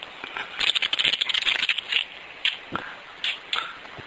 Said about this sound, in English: Okay, well, let's begin. Yes. Let me shuffle the tarot cards.